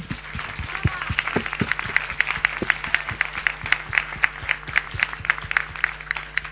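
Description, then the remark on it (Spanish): A crowd applauds a volunteer colleague for several seconds, a dense patter of many hands clapping at an even level with no voices over it. “Un aplauso para ella.”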